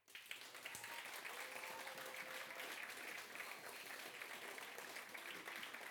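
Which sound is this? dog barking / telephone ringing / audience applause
audience applause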